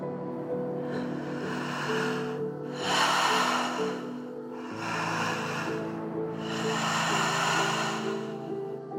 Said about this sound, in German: Und du entscheidest jetzt, wie intensiv dein Rhythmus wird. Wenn du magst, kannst du mit mir noch ein wenig intensiver atmen, ein wenig schneller werden und mit meinem Rhythmus hier mitgehen und darüber deine eigene Melodie finden.